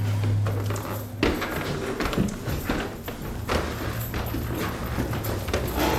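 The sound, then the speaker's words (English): Footsteps climb a narrow set of creaky stairs up to an apartment, a series of uneven, hollow thuds landing roughly every half second to second over a steady low hum, with no one speaking. “And the film early on depicts you inviting viewers into your home, and it's a long, hard climb, literally, and the viewer sees you walking up a narrow, creaky set of stairs.”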